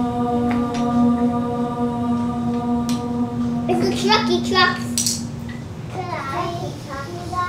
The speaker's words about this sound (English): While you may be familiar with that chant practiced in yoga, it may be unexpected to hear kids playing during this stereotypically Zen moment.